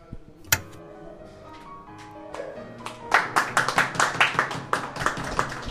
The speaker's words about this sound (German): Sie schneiden dann den Applaus direkt ans Ende vom Text.